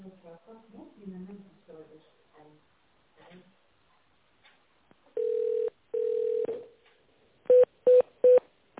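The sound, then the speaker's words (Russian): On a call to the firm Dizain Plus, a recorded voice greets the caller and asks for an extension number to be dialed in tone mode, then two longer steady electronic tones sound, followed by three quick, loud, evenly spaced keypad beeps of telephone tone dialing. “Если вы знаете внутренний номер абонента, наберите его в тональном режиме, нажав кнопку с изображением звездочка.”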